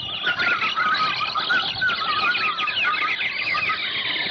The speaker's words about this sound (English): As we shot, 10,000 parrots and macaws started screaming in fright at the sudden outburst. We stood there surrounded by the din of those parrots. Oh, it was terrifying.